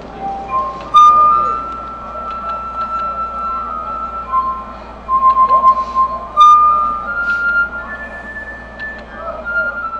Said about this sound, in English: There's the glass harmonica, man. You'd be amazed at the range of tunes and notes that he can get with simple glasses of water.